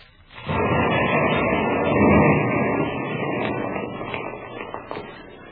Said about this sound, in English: Now there, the shot's in. Now I light the fuse. Let's take the baby in the other room. Butch, it will make a big bang? No, it's just a little shot. Make not any more noise than Michael when he blows up a bubble.